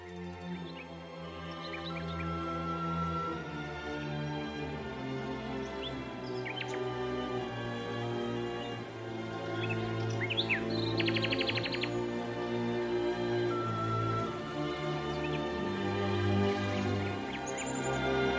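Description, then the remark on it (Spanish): Birds sing in a forest in scattered chirps and short tweets, with one brief buzzy trill midway, set against a steady, droning low hum that runs throughout. No one speaks. “¡Qué gusto da respirar bajo ese cielo puro, atravesado por los cantos de los pájaros!”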